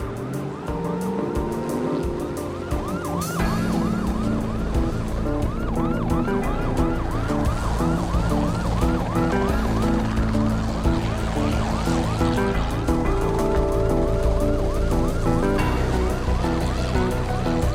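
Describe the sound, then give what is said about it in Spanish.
Police patrol car sirens wail in rapid repeating sweeps during a police chase, loud, layered over the roar of moving traffic and engines, with no talking throughout. “Las patrullas y el helicóptero no lo perdieron de vista a pesar del peligro.”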